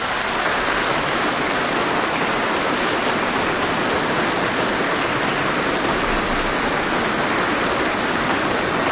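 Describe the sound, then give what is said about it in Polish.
Sustained applause from a large crowd at a Eucharist celebration for Bishop Ignacy Dec, marking ten years as bishop of the Świdnica diocese, a dense, steady wash of clapping that stays loud and even for the whole stretch with no voices breaking through. “Myślę, że należą mu się teraz olbrzymie brawa.”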